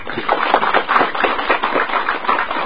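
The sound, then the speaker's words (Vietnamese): An audience at a Buddhist dharma talk claps steadily, a dense wash of many overlapping hand claps at an even, fairly loud level throughout, with no voices standing out. “Ở đây các vị nghe pháp rất là nhiều, cho tràng pháo tay.”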